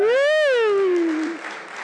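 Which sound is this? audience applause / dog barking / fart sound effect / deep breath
audience applause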